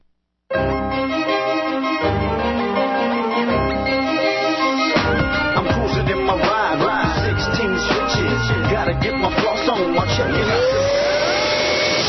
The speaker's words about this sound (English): Life may never be clean, but with Hoover, your floors can be. Hoover Floormate cleans all your hard floors. Hoover Wind Tunnel 2 Upright vacuums your carpets.